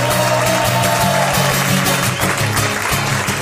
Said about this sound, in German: Und er kommt nicht durch, deswegen müsst ihr viel lauter applaudieren.